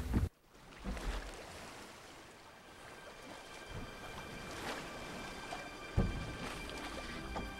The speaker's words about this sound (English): In the moonlight, a lone figure is standing up in a boat. The girl is rowing the boat to an island.